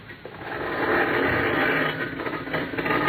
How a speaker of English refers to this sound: You open the garage door, then jump into the car.